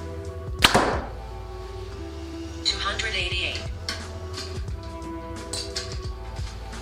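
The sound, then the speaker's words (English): A Hoyt Ventum 30 compound bow set at 70 pounds and 29 inches of draw with 85% let-off fires one 350-grain arrow with a sharp, loud snap and brief ringing thrum, followed by softer rustling and a few faint clicks and handling noises. “First arrow will be 350 grains.”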